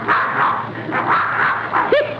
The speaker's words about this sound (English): Look. Well, I'll be darned, there's that mad dog, Adolf.